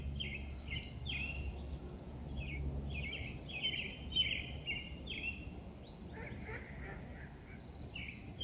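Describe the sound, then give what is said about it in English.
Wild birds call over and over in an outdoor park in Vancouver, their bright, honking notes coming in quick overlapping bursts against a steady low background rumble, with no one speaking. “But yeah, again, one of the issues about recording this episode at a park as a birder is that I'm getting very, very distracted and I'm just trying to identify birds and look at them.”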